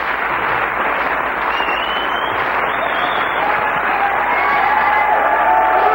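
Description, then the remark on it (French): A live audience applauds a band steadily and loudly at the end of a Black Session broadcast live from the 105, a dense wash of clapping with cheers and a few sharp whistles rising above it. “Vous avez le droit de les applaudir.”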